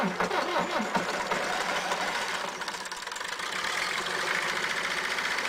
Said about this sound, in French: C'est-à-dire que les moteurs diesel de l'époque faisaient un bruit abominable. Les moteurs diesel de l'époque fumaient.